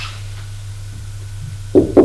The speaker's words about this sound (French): On a frappé à la porte.